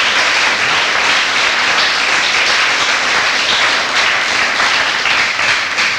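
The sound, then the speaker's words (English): A crowd at a meeting applauds the evening's speaker steadily, a dense, sustained wash of clapping at even loudness throughout, with no voices standing out. “have another round of applause.”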